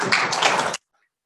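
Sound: applause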